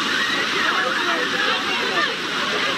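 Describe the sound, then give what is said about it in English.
A busy water park in Chicago: steady rushing and splashing water mixed with the chatter and shouts of many people playing, a constant wash of sound with no pauses. “The sound of people playing in a Chicago water park as nearly 73 million people in the United States are under extreme heat alerts as a heat wave moves eastward.”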